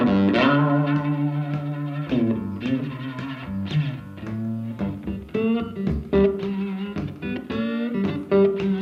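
A blues band plays an instrumental passage led by a gritty, distorted electric guitar, with sustained chords and sharp rhythmic accents over a steady, full backing, loud throughout with no singing.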